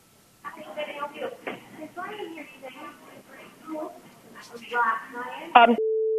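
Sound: telephone call tones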